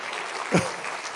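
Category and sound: crowd, audience clapping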